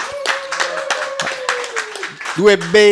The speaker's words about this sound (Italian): dai un applauso, fate un applauso dal vivo.